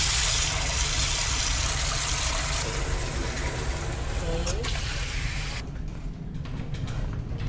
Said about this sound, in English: The water temperature must be correct, whereby you will check with the elbow. So you put on the cold water first, then you put the hot water.